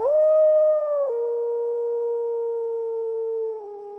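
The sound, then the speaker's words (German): Wolves howl in one long, unbroken, mournful note that steps down in pitch twice, loud, with no voices or other sounds around it. “Wir müssen uns beeilen, sonst sind die Wölfe vor uns in der Höhle und wir können sie nicht mehr aufhalten.”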